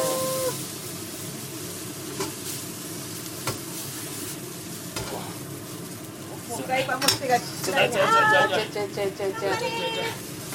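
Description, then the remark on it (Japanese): Steady sizzling from a hot frying pan as garlic fried rice is stir-fried and soy sauce is poured onto the pan's sides, with scraping and clanking of a utensil against metal, growing busier and louder toward the end as the rice is tossed and stirred; voices talk in the background. “じゃあ醤油で、醤油はあのご飯の上じゃなくてお鍋の 鍋肌ですね。”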